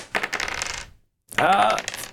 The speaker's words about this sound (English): He's picking. Re-rolling all of his dice.